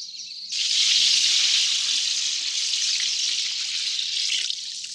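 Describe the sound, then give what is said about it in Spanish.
Water is drawn and poured for a thirsty traveller and his camels, a steady, continuous rushing stream that begins abruptly after a brief quieter moment and runs loud until the end, with no voices. “Aquí tiene agua. Y voy a sacar más para tus camellos.”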